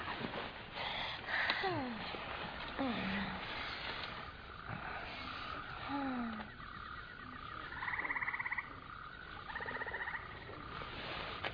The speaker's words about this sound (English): That's my sound machine. I'm a troubled sleeper. Kind of hooked on it. Frogs? Yeah, it's cicadas. Officially, we're in the rainforest.